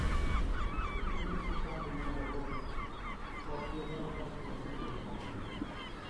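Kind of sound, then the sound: bird, seagulls calling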